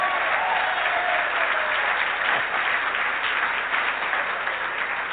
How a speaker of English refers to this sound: Well, go ahead and clap then. Don't patty cake. Go ahead and do it.